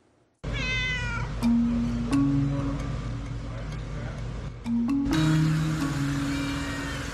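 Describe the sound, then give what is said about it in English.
A feral cat meows near the start, a drawn-out mewing cry, over a steady low hum with a few sharp clicks scattered through the rest, in Chicago. “The Cats at Work program is a program that's intended for feral cats who can no longer return back to their original territory.”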